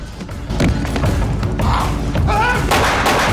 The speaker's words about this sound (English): Another bursts through the window and rushes at James, knocking him over. He fires at James with a handgun.